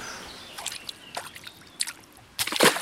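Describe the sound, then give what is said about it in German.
Quiet murky, dark water sloshing and lapping at the edge of a small lake behind a playground in a park in Vienna, with irregular soft splashes and a slightly louder slosh near the end, over a faint outdoor hush. “Hinter dem Spielplatz im Dänepark in Wien liegt ein kleiner See. Das Wasser ist trüb und dunkel, ein paar Enten suchen nach Nahrung.”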